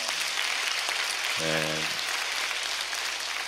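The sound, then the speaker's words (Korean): An audience at an early-morning church service applauds steadily in thanks and glory to God, a dense, even wash of many hands clapping at constant loudness, with a brief low sustained tone rising through it near the middle. “우리 그런 하나님을 바라보고 이 자리에 나오셨는데 다시 한번 하나님 앞에 감사와 영광 박수 올려드립니다.”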